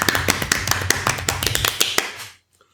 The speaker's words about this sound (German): Und da kann man auch mal klatschen.